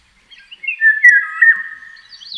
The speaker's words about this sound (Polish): Tak śpiewa wilga.